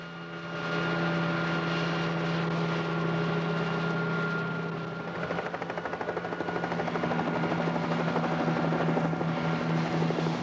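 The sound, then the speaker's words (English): A police helicopter drones steadily overhead as it flies past a prison, its engine whine constant, then the rotor chop grows louder and more distinct in the second half as it passes by. No voices. “A police helicopter flies past the prison.”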